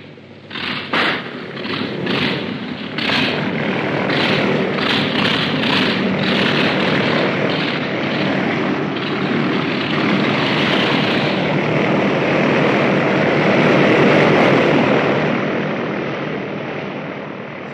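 After the wheel chocks are removed, a propeller plane engine coughs into life with a few uneven bursts, then settles into a loud, steady roar that swells higher and louder to 2000 rpm before easing slightly at the end.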